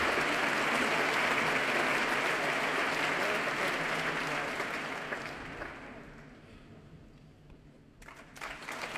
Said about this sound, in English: And applause now for the leader of the BBC Symphony Orchestra, Stephen Bryant, taking his place on the platform.